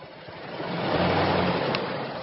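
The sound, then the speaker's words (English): A truck engine hums steadily, a broad rumbling drone that swells slightly in loudness midway, with a low tonal growl underneath and no voices. “Why am I in my truck?”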